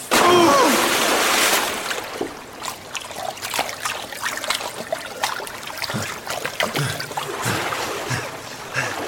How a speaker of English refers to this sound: The beam illuminates the water, which is an underground river.